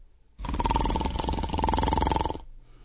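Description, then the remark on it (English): One long, rasping comic snore-like snort lasting about two seconds, buzzy and growly with a steady honking pitch, loud and alone with no talking, then it cuts off abruptly. “It's a great night for snores.”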